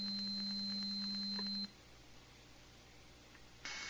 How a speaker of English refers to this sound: 8 kilohertz, triangle wave.